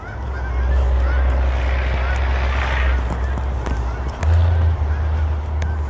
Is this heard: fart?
no